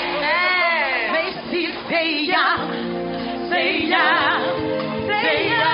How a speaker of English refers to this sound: I ask it and I pray in the name of Jesus. And everybody shouted, Amen.